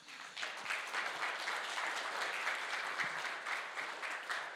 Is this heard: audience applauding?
yes